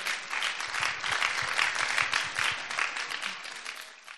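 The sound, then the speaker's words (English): An audience at a Greenbelt Festival talk applauds steadily for a few seconds, a dense crackle of many hands clapping at a fairly loud, even level before it starts to thin out at the end. “Can we have another great big round of applause for everyone who's been here together?”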